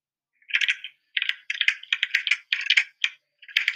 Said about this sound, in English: We hear the clicky clacky keyboards